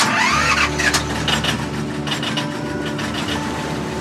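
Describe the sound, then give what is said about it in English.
A tugboat engine cranks and catches, then settles into a steady, fairly loud low rumble with mechanical rattling, running on its own with no talking. “Engine on.”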